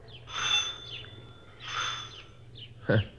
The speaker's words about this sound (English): It was a large two-story place that had been converted into a rooming house. There were several cars parked in the front yard. We went up to the front door and rang the bell.